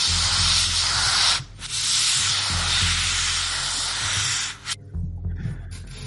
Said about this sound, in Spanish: Supongo que llega Linda corriendo y activa el extintor sobre la parte de que se ha podido prender.